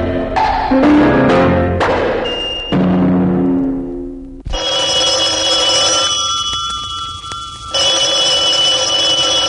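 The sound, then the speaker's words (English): A telephone rings loudly with no talking, as part of a Radio WKLO Cash Call Jackpot radio spot: several bright, decaying bell strikes at first, then a sustained, buzzy high-pitched ring that continues with a brief hitch before the end. “Throughout the day, Radio WKLO will place calls to persons living in Kentuckiana giving away money.”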